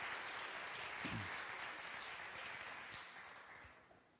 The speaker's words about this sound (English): So thank you guys for sharing. Let's give them one final applause.